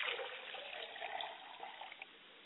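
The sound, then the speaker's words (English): Water is poured steadily onto the ground as a ritual libation to the south, a continuous splashing stream, fairly quiet, with no voices over it. “I pour libation to the south, and we all say, Ashe.”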